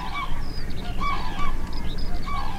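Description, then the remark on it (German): Common cranes performing their courtship dance, calling in a loose chorus, their loud, trumpeting honks repeating and overlapping over a steady outdoor background, with no one speaking. “Und sie führen den sprichwörtlichen Kranichtanz auf.”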